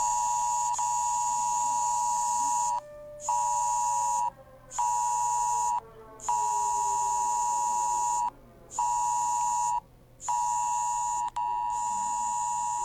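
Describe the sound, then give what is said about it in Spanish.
A loud, piercing emergency alert test tone from the regional ONEMI alert system blares on mobile phones in Chillán at 11 on a Thursday, in stacked harsh pitches, broken by several short gaps into an irregular pulsing pattern, with no talking. “A las 11 horas de este día jueves se activó la prueba del sistema de alerta de emergencia del ONEMI regional en los dispositivos móviles de Chillán.”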